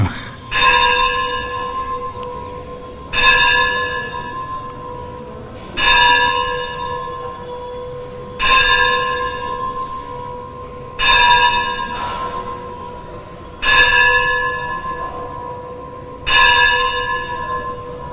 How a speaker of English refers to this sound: Let nine bells ring.